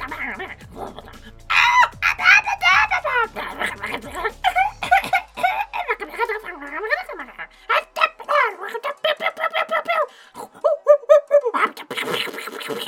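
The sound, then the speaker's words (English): Many monkeys call over one another in a dense, shrill chorus of chattering and squealing, with rapid bursts of high, warbling cries that pile up and continue for the whole stretch. “There's a lot of noises going on. There's a lot of monkeys in there.”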